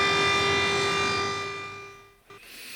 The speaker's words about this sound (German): Die Ukrainerinnen und Ukrainer haben sich daran angepasst, doch gewöhnen an die heulenden Sirenen und die Angriffe wollen sie sich nicht.